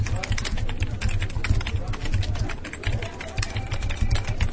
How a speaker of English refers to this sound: All right, everyone, quiet down. Quiet down. Stop that incessant typing and listen up.